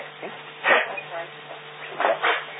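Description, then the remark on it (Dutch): A small dog barks a few times in short, sharp yaps, one burst early and a quick pair near the end, heard over a faint steady hum on a narrow, phone-like line. “Maar daar gaat in, nou, hondje te keer.”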